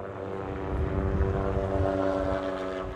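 A helicopter carrying two blindfolded bighorn sheep in orange harnesses fills a valley on Idaho's side of Hells Canyon at about 8 a.m. on a cold December morning. Its steady, droning engine and rotor rumble is loud and continuous, with a low, throbbing thrum, a faint rise in intensity and no voices.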